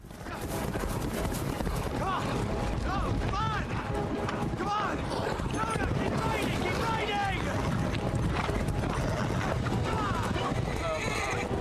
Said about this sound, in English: Two rivals ride side by side as Luna gallops on ahead.